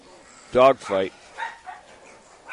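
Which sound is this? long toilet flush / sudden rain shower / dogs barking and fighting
dogs barking and fighting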